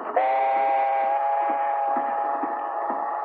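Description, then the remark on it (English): A train heading north rolls along the tracks with a steady, regular clack of wheels over rail joints, while a long, sustained whistle tone sounds loudly over it throughout. “Julian was assigned the job of accompanying him on the train up north.”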